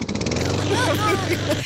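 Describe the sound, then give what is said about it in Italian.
A voice imitates a combustion engine with the mouth, starting with quick sputtering pulses and then a steady buzzing drone with rising and falling pitch, like revving. “questo credo sia un motore a scoppio.”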